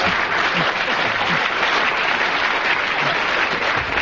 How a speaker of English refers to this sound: I don't know whether the audience are applauding because they agree or just applauding your magnificent performance